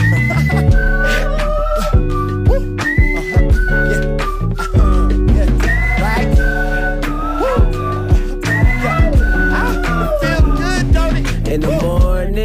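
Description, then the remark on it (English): A bright, wavering whistled melody rides on top of a loud, dense music backing with a steady beat, its notes gliding and repeating in short phrases throughout. “Can you whistle?”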